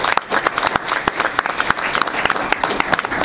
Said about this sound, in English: And Norton City Schools was named an academic All-Ohio football program. So I think all of these kids deserve a round of applause.